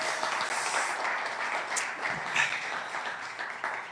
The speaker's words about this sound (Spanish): Y si alguien está emocionado de estar aquí, le puede dar un aplauso una vez más a Jesús.